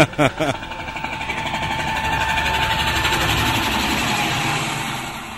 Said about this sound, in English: Aside from the guns and the ever-present sound of attack helicopters, the walls and waitstaff are covered in camouflage, and sandbags demarcate the patio.